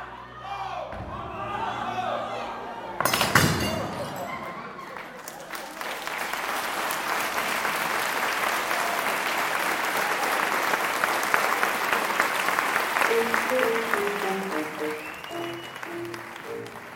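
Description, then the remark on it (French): A large audience breaks into loud, sustained applause after the juggling show Smashed by the Gandini Juggling company, dense clapping that swells after a few seconds and carries on steadily to the end, with a few murmurs and faint tones underneath. “Voilà, c'est sur ces applaudissements-là du spectacle d'hier soir, Smashed, de la compagnie Gandini Juggling, que l'on se met en bouche.”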